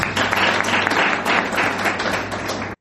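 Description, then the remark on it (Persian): A crowd applauds steadily, a dense wash of many hands clapping fairly loud, sustained for a few seconds before cutting off abruptly. “عالی عالی تشویق.”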